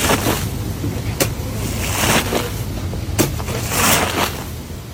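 Soapy water being scraped off a rug after it was vacuumed and shampooed, in repeated long, wet swooshing strokes, fairly loud, with a surf-like rushing quality and sharper scrapes at the start of some passes; no one speaks.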